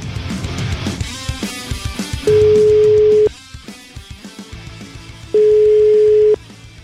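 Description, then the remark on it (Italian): A telephone ringing tone sounds twice, each a steady one-second hum with a pause between, over faint background music, before a phone call to Cateno De Luca, mayor of Messina, is answered. “E dopo, facciamo sentire la telefonata straordinaria.”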